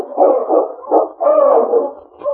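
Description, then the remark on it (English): A sled dog team arriving yelps and howls together in a steady, overlapping chorus, fairly loud, with brief dips in between before the noise swells again. “The following day, Ulak had gone out to hunt when Sergeant Preston heard the sound of his dog team, which meant Keok's return.”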